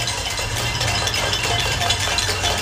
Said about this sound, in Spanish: Y las caceroladas en Valencia.